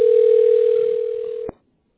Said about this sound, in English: Okay, so let me go ahead and connect you. Bear with me a moment. Thank you for your patience. Thank you. Okay, thank you. Stay with me on the line. We're dialing the tax specialist now.